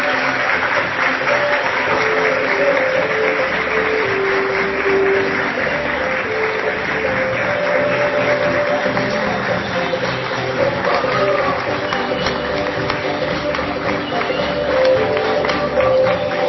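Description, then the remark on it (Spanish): Sustained audience applause for the selected designers of a 2015 fashion design runway event, a dense steady wash of clapping that stays loud for the whole stretch, with musical tones and faint voices underneath. “Así es, que se otorga, y pido, antes de nombrar, un fuerte aplauso para todas las seleccionadas de esta edición 2015”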